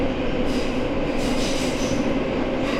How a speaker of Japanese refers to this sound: 末広町です。この電車は浅草行きです。 The next stop is 末広町 G14. This train is bound for 浅草。